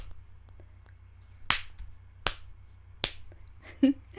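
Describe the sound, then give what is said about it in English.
Three sharp, crisp spanking slaps land at an even pace against a low steady hum, followed by a brief, fainter higher-pitched sound like a small squeal. “You need more than just a little spanking.”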